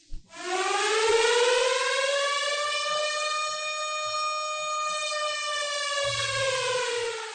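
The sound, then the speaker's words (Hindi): A civil defense air raid siren sounds at 7 o'clock for a civil defence blackout mock drill in Patna, Araria, Kishanganj, Begusarai, Purnia and Katihar districts. It wails continuously, rising quickly at the start and then holding a steady, loud, sustained tone with rich harmonics for several seconds, with no voices present. “घड़ी की सुई में जैसे ही 7 बजे सायरन की आवाज से पटना, अररिया, किशनगंज, बेगूसराय, पूर्णिया और कटिहार जिले में जनजीवन थम सा गया।”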